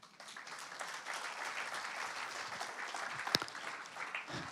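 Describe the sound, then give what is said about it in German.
A crowd applauds steadily, a dense wash of many hands clapping at an even level for several seconds, with one sharper clap standing out near the end. “Ja, da dürfen wir klatschen.”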